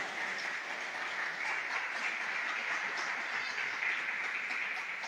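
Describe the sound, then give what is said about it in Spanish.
An audience applauds for Jesus in a steady, dense wash of clapping that holds at an even loudness for about five seconds, with no voices over it. “Démosle un aplauso a ese Jesús que nos ama de esa manera.”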